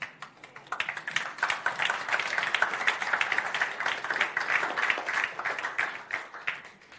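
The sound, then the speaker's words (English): An audience claps together as a clap offering to the Lord, a dense, crackling wash of many hands that holds steady at moderate loudness for several seconds, with no voices over it. “That's a clap offering to the Lord, not to me, because I don't want to get big-headed.”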